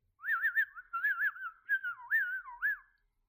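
A person whistles a short, wavering melody in a few connected phrases with bending, trilling notes, clear with no talking.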